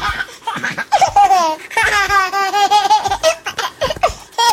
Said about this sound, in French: Les bébés humains ont un rire très particulier, différent des adultes, car nos chers bambins rigolent à la fois lors de l'expiration, mais aussi lors de l'inspiration. Écoutez plutôt.